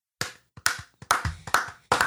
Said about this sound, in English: Oh, Can we just stop here and give them a round of applause?